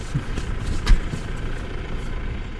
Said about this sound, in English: A tractor engine and the occasional car are about all that disturb the bucolic landscape near the small town of Feldkirchen.